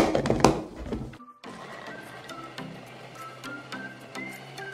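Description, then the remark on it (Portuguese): A mixture of boiled chicken with a little salt being beaten into a paste: loud clattering at first, a brief pause, then a steady motor hum with faint, regular ticks. No one speaks. “Então a gente vai bater bem isso aqui até formar uma pasta.”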